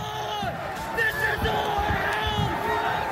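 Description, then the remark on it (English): A large crowd at a protest rally shouts and chants together outdoors, a dense, continuous roar of many voices with rising yells and cries layered over the steady din. “For me, it started and it ended with crowds of people who had gathered together because of things they believed.”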